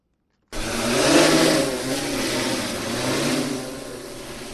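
A multispectral drone's rotors whir into a loud, steady buzzing drone after a moment of silence, the motor pitch wavering slightly as it hovers and climbs, with no voices. The drone is surveying crops for diseases and pests at the Kpong Irrigation Scheme in Ghana.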